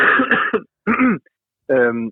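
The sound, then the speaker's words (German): A person with a frog in their throat clears it and coughs in three short, rough bursts separated by brief pauses, the last one more voiced and rasping. No speech accompanies them. “Ja, warte mal ganz kurz eine Sekunde, ich muss mal ganz kurz husten, ich habe irgendwie so einen Frosch im Hals.”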